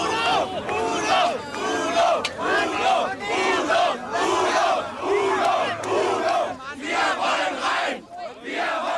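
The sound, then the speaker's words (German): A large crowd of a singer's fans, kept outside the palace in East Germany while he performs for a select audience, shouts and chants together in loud, surging waves of many voices, rising and falling continuously with rough rhythmic bursts throughout. “Seine wahren Fans, von der Staatsführung als feindlich-negatives Gesindel stigmatisiert, müssen draußen bleiben.”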